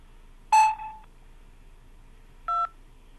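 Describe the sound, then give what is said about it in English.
A mobile phone keypad press tone sounds once, a short bright electronic beep, then after a pause a second brief dual-pitched keypad tone follows, both fairly loud against a quiet background with no talking. “If you are a male, please press 1. And if you are a female, please press 2, using your mobile phone key.”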